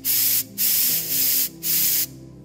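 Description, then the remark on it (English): Three loud, rushing blasts of compressed air spray from a can onto a computer keyboard to clear a stuck space bar key, each lasting about half a second to a second with brief pauses between, a broad hissing roar. “It can get rid of what's sticking your space bar key. And he grabbed this can, and all of a sudden, well, it was more mighty and rushing than that.”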